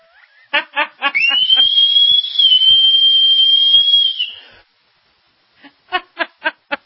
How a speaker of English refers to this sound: Do we have a good whistle in the house somewhere?